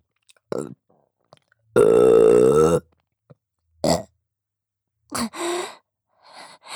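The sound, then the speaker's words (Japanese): A long, loud, rumbling burp, surrounded by a few shorter throaty bursts and breathy sounds, with quiet gaps between them and no talking. “これからもずっとこうして一緒にいて、ゲップもごっくんも聞かせてあげますね。”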